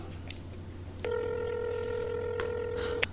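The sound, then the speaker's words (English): A few soft clicks, then a steady electronic telephone keypad tone holds for about two seconds as a call is placed to the landlord, clear over a low background hum, with no voices. “I'm gonna give the landlord a call to see if it's some kind of plumbing thing.”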